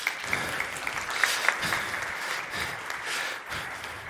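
A church audience claps steadily for about four seconds during a service, a dense, even patter of many hands with a few sharper individual claps standing out, and no voices over it.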